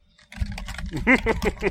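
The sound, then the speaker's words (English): Rapid, loud clacking of keys on a computer keyboard, with a voice sounding over the later part of the typing. “Like, the typing is so comically loud, it sounds fake.”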